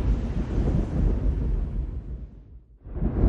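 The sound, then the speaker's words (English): A deep, rolling rumble of thunder from the heart of a chem storm, loud and low, slowly fading over a few seconds before a fresh roll swells back up at the end. No voices. “The thunder from the heart of the chem storm, a constant”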